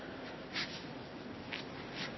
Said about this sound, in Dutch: Even neus snuit hoor.